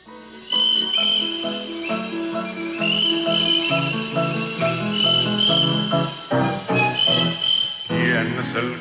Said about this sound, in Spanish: Aquí fue cri cri, fue cri cri. ¿Y quién es ese señor? El grillo.